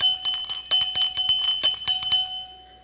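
A hand-held dinner bell, used to call children in for supper, rings rapidly and repeatedly. About a dozen bright metallic clangs come in an uneven rhythm, each leaving a high ringing tone that fades out at the end.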